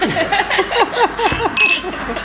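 Wine glasses clink together once or twice in a toast, a bright ringing tap amid overlapping voices and light chuckling.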